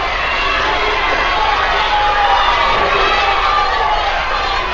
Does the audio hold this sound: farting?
no